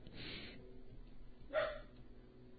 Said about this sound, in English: I'm going to kill that dog.